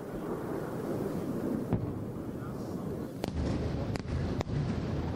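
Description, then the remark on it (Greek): Several booms and sharp cracks from interceptor missiles exploding at high altitude overhead during a ballistic missile attack on Israel go off irregularly over a steady rumbling, wind-buffeted background, with a few louder thuds clustered toward the end. “Βλέπετε τους πυράβλους αναχέτησης και τις εκρήξεις.”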